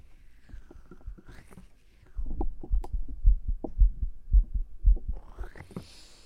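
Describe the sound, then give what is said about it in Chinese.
A heartbeat picked up by a microphone as it is moved to find the heartbeat: soft, muffled low thumps at first, growing into strong, steady double beats, with rustling and scraping of the mic at the start and end. “总是找不准心跳的地方。”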